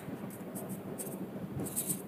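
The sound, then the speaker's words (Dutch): A pen scratches steadily across paper in quick, irregular strokes, with short bursts of brighter scraping standing out from a soft rustle. No one speaks. “We zijn zo hard aan het schrijven.”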